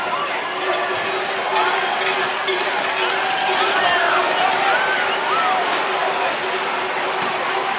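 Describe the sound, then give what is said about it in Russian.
A dense crowd of people running with bulls toward the Plaza de Toros bullring in the season's first run of the San Fermín festival, a steady loud roar of feet and shouting voices, with clanking bells ringing through the din and a constant mechanical hum underneath. “Гонят быков до Плаза де Торос, арены быков.”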